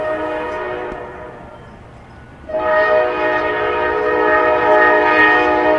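A freight train on a railway line in Indianapolis sounds its horn in two long, droning blasts, the first fading out and the second returning louder, over a steady low rumble of rolling cars. The track runs alongside the offices of the steelworkers' union Steelworkers 1999.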